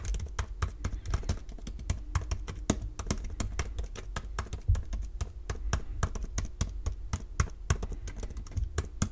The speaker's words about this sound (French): Du coup, ça s'entend davantage quand on tape dessus. Dans un milieu de bureau calme, les clics comme ça, ça finit vite par taper sur les nerfs des collègues. Et d'ailleurs, voilà ce que ça donnait comme, quand on tapait sur le clavier papillon.